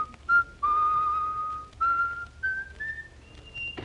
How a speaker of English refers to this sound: That man's always whistling.